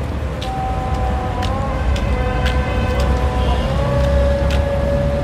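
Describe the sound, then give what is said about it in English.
A busy city street in Cairo with a steady, dense roar of traffic, engine rumble and long car horns sounding repeatedly over it, with occasional sharp clanks. No one speaks. “But Cairo traffic is not for the faint-hearted, especially not for a learner.”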